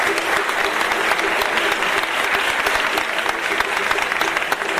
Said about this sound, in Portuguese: Uma salva de palmas aqui, pessoal do Estadão.